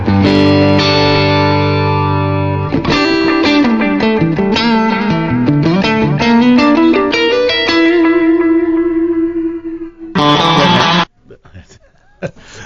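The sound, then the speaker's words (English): An electric guitar played through a tape echo effect plays a sustained chord and then a melodic run of notes, each smeared by echoing repeats and reverb, before a final loud strum cuts off into quiet. “Do you have a clip of the tape echo to play?”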